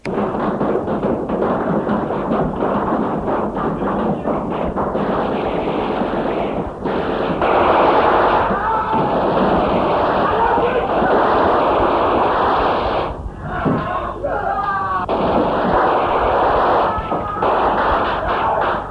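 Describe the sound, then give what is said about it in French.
A loud, chaotic burst of gunfire, with rapid cracks blurring into a dense roar, and what sounds like shouting or screams rising briefly near the end. “Des coups de feu, des cris.”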